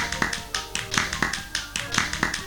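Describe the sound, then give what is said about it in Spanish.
Marie and Fritz applaud after watching two life-size harlequin dolls dance: hands clapping in a quick, slightly uneven run of about ten sharp, crisp claps over a couple of seconds, moderately loud with no talking. “Marie y Fritz aplauden.”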